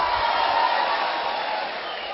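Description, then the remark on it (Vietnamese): A crowd applauds steadily, a dense wash of many hands clapping at once that holds fairly loud for a couple of seconds and eases slightly toward the end. “Xin quý vị dành cho tràng pháo tay để chúc mừng toàn thể quý vị.”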